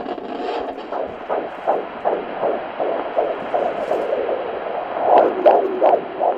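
A fetal heartbeat on an ultrasound doppler at an OBGYN appointment: rapid, steady whooshing pulses over a constant swishy hiss from the baby moving through fluid, with little noises from the baby's movements, growing slightly louder and clearer near the end, with no talking.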